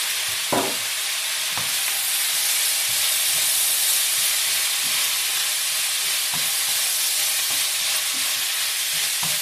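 Food sizzles loudly and steadily in a hot pan, a dense crackling hiss with occasional clinks and scrapes as it's stirred, with no talking.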